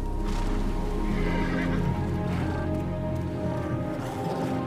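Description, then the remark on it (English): A horse neighs and whinnies loudly, its voice rising over a dense, wet rumble of its hooves splashing on a flooded forest floor. No one speaks. “Its hooves splash on the flooded forest floor.”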